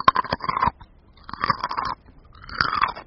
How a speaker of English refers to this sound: He loved to eat carrots, frozen carrots.